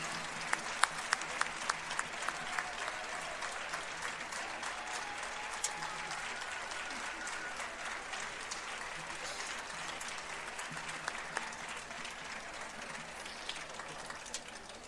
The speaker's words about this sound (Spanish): Pero como ven, el resultado pues es magnífico, y me gustaría que les diésemos un fuerte aplauso, porque el esfuerzo es suyo.